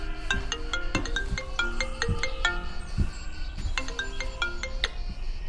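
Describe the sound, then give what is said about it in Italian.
A telephone in the dining room of a home rings with a melodic electronic ringtone, quick bright notes repeating in a steady looping pattern. It is moderately loud, with no talking over it. “Carlo si alza e va a prendere il telefono nella sala da pranzo.”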